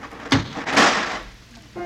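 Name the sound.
car door slammed shut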